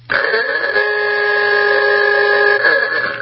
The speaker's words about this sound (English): Hey, that Aduka horn means we need to go into the email bag.